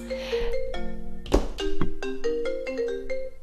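A phone ringtone plays a bright, stepping electronic melody of short tonal notes, fairly loud, with a brief noisy burst partway through and no talking.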